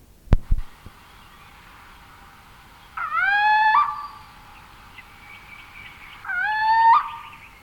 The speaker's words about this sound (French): Dans le lointain, une chouette ulula.